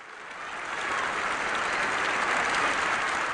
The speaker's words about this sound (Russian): А 11 февраля 1990 года Радио ООН транслировало выступление в Генеральной Ассамблее легендарного лидера борьбы с апартеидом Нельсона Манделы, который провел в тюрьме 27 лет. Его встретили бурными, нескончаемыми аплодисментами.